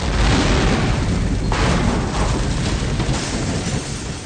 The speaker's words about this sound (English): This steam blew the top of the reactor building off. Air from outside entered the reactor. It caused another explosion.